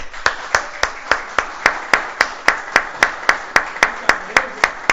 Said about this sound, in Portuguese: Então, em nome do Poder Legislativo, eu te agradeço e levanto para bater palmas para ti pelo excelente estagiário que tu foi.